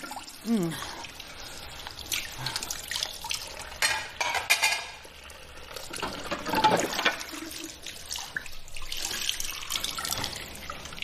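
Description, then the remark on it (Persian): Water runs steadily from a tap into a sink while dishes are washed, clinking and clattering, with splashes and dripping throughout; the water is very hot; faint voices come and go in the background. “چون دیروز اون ظرفا رو خوش کرد. الان نوبت توئه.”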